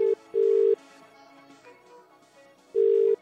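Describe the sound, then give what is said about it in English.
A phone line ringing back as SAFM radio hosts call a listener: steady, loud electronic ring tones in short bursts, separated by a pause, over faint background music. No one talks. “You want to make a phone call? Let's do it.”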